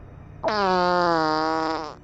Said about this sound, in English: Seconds after she felt that she had finally gained control, she relaxed her body and her focus for the briefest of moments, only for the unimaginable to happen. She farted.